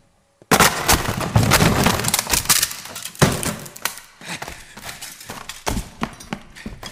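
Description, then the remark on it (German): A door is broken open: a sudden heavy crash of splintering wood, followed by a burst of cracking and clattering that settles into scattered knocks and thuds. “Brechen Sie die Tür auf!”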